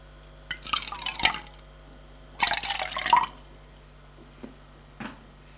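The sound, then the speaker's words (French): In a kitchen, water runs into a saucepan in two short, splashy bursts of about a second each, followed by a couple of faint clinks, as the pan is filled to heat water for herbal tea; no one speaks. “La remplis d'eau.”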